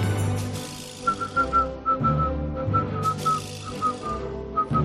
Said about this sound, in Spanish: El que silbaba no era yo. No.